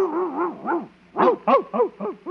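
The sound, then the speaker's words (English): A dog in a kennel gives a couple of wavering, whiny yelps, then a quick run of four sharp barks, with no talking. “No, just my dog.”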